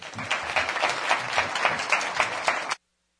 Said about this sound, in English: If I may, I'd like to just give another round of applause to Judge Satterfield for that remarkable story.